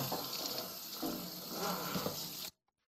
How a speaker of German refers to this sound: So. Das Brettchen waschen wir jetzt mal kurz ab.